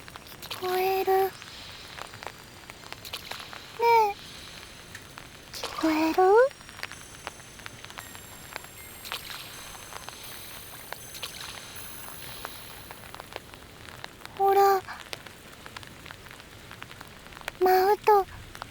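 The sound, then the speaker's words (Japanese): Steady rain patters on a hard surface throughout, a dense crackling hiss of drops. Short voiced sounds rise over it now and then at scattered moments. “雨水が一緒に歌ってくれてるみたい。”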